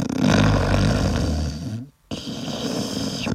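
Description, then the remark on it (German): A person snores loudly, a long rattling, buzzing snore that breaks off for a brief silent pause before another rough snore starts up. “Schnarchen raubt vielen Menschen den Schlaf, die neben einer menschlichen Säge im Bett liegen.”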